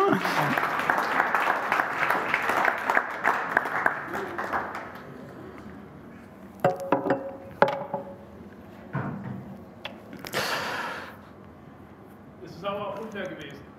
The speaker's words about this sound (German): Vielen Dank euch, einen großen Applaus hier.